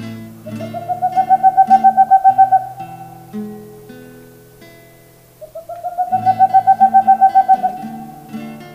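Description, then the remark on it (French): A northern saw-whet owl call: two runs of rapid, evenly repeated whistled toots at a steady mid-high pitch, separated by a pause, with soft music humming underneath. “Vérifiez bien dans les anciens trous de pique-bois, car la petite nyctale aime bien s'y nicher. Voici son cri.”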